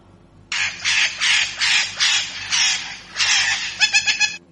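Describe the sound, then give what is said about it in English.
A parrot squawks loudly in a rapid series of harsh, raspy calls that run together, ending with a quick stuttering burst of shorter squawks. “P for parrot.”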